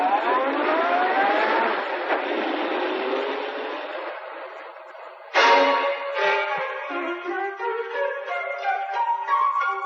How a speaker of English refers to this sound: A car drives away.